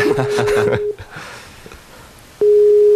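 A telephone busy signal, heard when calling the radio station CJSF, beeps with a steady, loud electronic tone, cutting off, pausing, then sounding again. Voices talk over the first beep, and the second plays alone.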